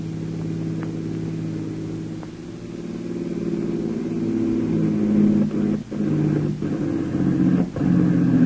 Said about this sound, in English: Behind them, two other Jap radio cars are rapidly approaching.